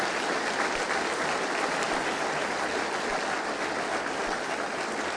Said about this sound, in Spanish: Yo creo que merece un aplauso el Señor de gratitud y no sé, ¿verdad?